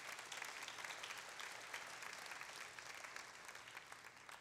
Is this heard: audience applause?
yes